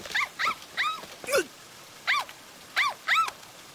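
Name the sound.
puppy barking and whimpering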